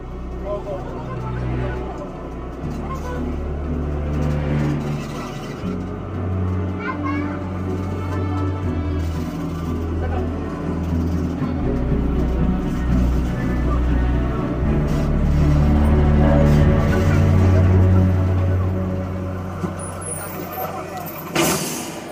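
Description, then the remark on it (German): A city bus in Rome, heading back to the Pantheon, rumbles steadily from inside, its engine droning low while air brakes hiss now and then, with children's voices and chatter from passengers mixed into the busy background. “Noch fassungslos über die Auskunft im Krankenhaus nehme ich den Bus zum Pantheon zurück.”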